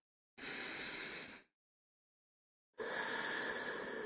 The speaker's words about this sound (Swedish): Genom hela övningen så andas vi genom näsan. Börja med att ta några djupa andetag för att slappna av. Och en gång till andas in.